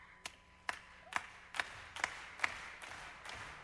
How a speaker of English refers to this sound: To give me your clap this way.